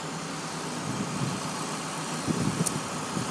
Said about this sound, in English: So yeah, there's a big truck behind me.